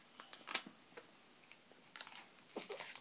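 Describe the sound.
Someone imitates the noise of eating chocolate pudding with their mouth, making wet smacking, chewing noises in short bursts and clusters, fairly soft, with brief pauses between and no talking.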